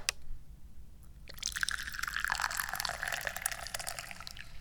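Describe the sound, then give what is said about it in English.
After a brief quiet moment, Da Hong Pao tea pours steadily into a cup, a continuous splashing trickle whose pitch rises gently as the cup fills. No one speaks. “there's nothing you can do about it, except maybe pour some tea.”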